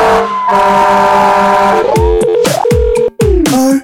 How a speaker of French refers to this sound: Sortie de secours. Alarme. Sortie de secours. Alarme.